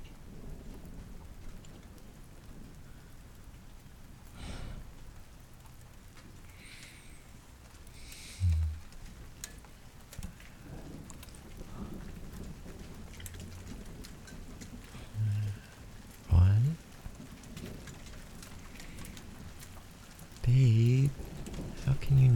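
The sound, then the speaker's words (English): Steady rain falls in a constant, even hiss in cold weather, with occasional low rumbles and a few soft, muffled murmurs of voice beneath it. “Sleepy when it's cold and raining.”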